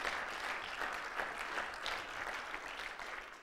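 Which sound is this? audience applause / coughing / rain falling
audience applause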